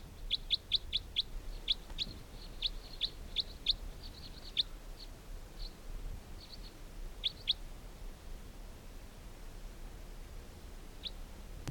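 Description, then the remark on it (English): A bird, logged as bird 322 during bird netting, gives rapid, high-pitched chirps in quick bursts, then sparser single notes with pauses between, over a low steady background rumble. “This bird 322.”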